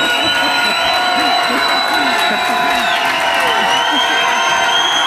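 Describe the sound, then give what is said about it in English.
A large crowd at a sermon gathering stands, cheers and claps as the preacher is introduced, in a loud, continuous wash of noise, with overlapping voices shouting throughout the few seconds. “And we got a crowd, Yahweh!”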